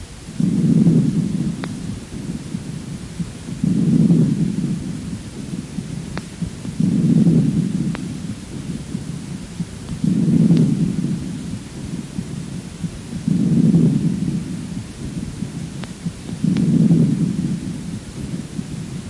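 A 4-year-old child's puerile breathing over the right lung: six soft, whooshing breath cycles rising and falling in a steady, slow rhythm, low and muffled like a stethoscope recording, with no talking.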